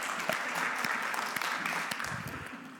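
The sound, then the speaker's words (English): A crowd applauds steadily for about three seconds, many hands clapping in a dense, even patter that tapers off slightly at the end, clapping for a man who recited Psalm 31:6. “All right, we're going to clap for him.”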